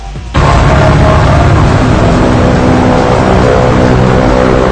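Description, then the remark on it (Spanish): A loud, steady low rumbling hum, recorded at dawn on Tuesday 6 March on Avenida Pardo in Miraflores, Lima, starts abruptly after a brief quieter moment and continues unbroken, dense and droning like an engine, with no voices. “Eso que ha estado escuchando usted no es una moto, es el HAM. No es un barco, es el HAM.”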